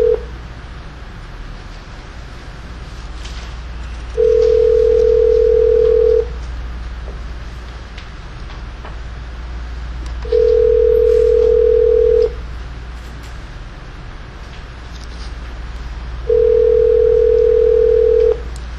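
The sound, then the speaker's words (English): Telephone line tones as a call is placed through an operator: three steady, two-second electronic tones repeat at even intervals, fairly loud, over a constant low rumble with no one speaking. “They don't have a direct line here, so I have to get the operator to make a call for us.”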